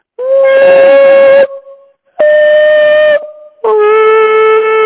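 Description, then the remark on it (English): A voice sings three long, steady, fairly high notes, each held over a second, seeking the resonant frequency of a huge room at a conference venue, with a faint ringing echo lingering in the short gaps between them. “But here's, let's see if I can find the resonant frequency of this room.”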